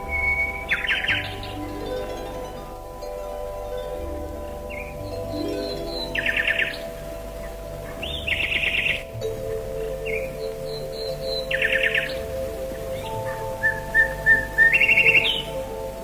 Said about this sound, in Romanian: Privighetoarea începu să cânte un cântec plin de gingășie și atât de duios că ochii împăratului se umplură de lacrimi.